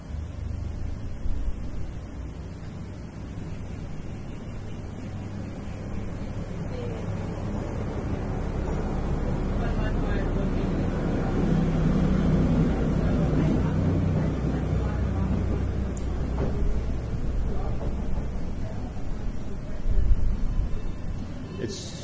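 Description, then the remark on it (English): A truck rumbles past, its deep engine noise swelling steadily over several seconds, holding loud for a stretch, then easing off, with a broad, wind-like roar over the low drone. “That see is how you talked when the truck went by.”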